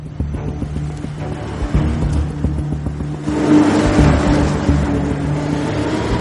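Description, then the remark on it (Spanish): A convertible car's engine drones steadily, its low rumble swelling into a louder, rougher rev about halfway through before settling back into a continuous drive along a familiar route. No voices are present. “No, él quiere que se vea que puede ir en descapotable sin que le pase nada.”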